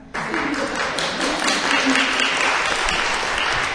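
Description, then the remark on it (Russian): Loud, sustained applause from a large audience for a woman singer, a dense crackle of many hands clapping that starts abruptly and holds steady throughout, with faint voices mixed in beneath. “Чтобы вы радовались, чтобы вы наслаждались, чтобы вы очень громко хлопали ей, чтобы она знала, что вам нравится.”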